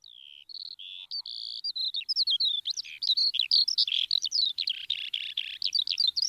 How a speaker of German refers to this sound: ist in aller Herrgottsfrüh über die Wiesen gestrolcht, um eine Lerche zu belauschen.